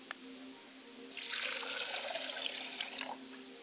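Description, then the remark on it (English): Liquid is poured out as a libation toward the north in a steady, splashing stream that starts after a second and runs for about two seconds. It is fairly quiet, with no voices. “I pour libations to the north, and I say, libation.”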